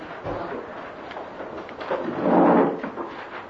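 Chairs being carried in and shifted around, a steady muffled scraping and clattering that swells into a louder rumbling scrape midway through before settling back, with no voices.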